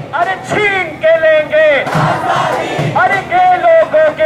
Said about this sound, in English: At the Pride Parade, activists danced and shouted slogans demanding freedom.